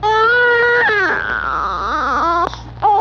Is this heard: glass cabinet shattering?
no